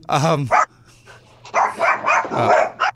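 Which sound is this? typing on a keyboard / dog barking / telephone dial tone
dog barking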